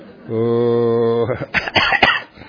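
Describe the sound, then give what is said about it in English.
A Buddhist monk gives a drawn-out voiced hum that gives way to a quick series of three or four harsh coughs, loud and rough, trailing off into quiet. “Perhaps this cough is more than a cough.”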